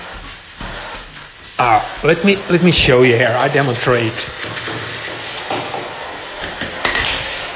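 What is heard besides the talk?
vacuum cleaner running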